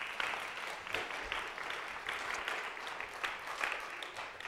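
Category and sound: crowd, audience clapping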